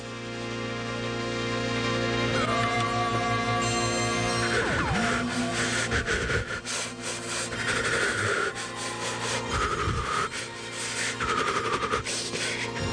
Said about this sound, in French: Vous allez essayer de retirer la baguette noire. Je maintiens que je vais essayer de retirer la baguette noire, le Mikado. Si jamais je réussis, j'ai gagné.